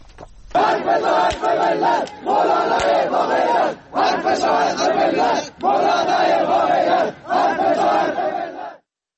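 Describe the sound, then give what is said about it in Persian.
A crowd of about 100 protesters chants slogans in loud unison at a Sunday rally in Galikash, Iran, supporting Friday prayer leader Mowlavi Mohammad Hossein Gorgij and demanding his summons to the Special Clerical Court be cancelled; voices rise and fall in repeated rhythmic phrases separated by short pauses, with no single speaker standing out. “به گزارش کمپین فعالان بلوچ، حامیان محمد حسین گرگیج، مشهور به مولوی گرگیج که شمار آنها به 100 نفر می رسید، در تجمع روز یک شنبه شعارهایی در حمایت از امام جمعه گالیکش دادند.”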